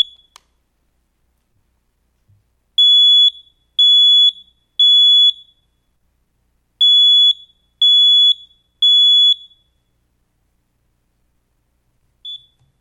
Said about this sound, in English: I want you to listen to this. I'm going to test it. There's going to be six loud beeps. And the purpose of sharing it is that there's incredible power in one beep. Let's listen.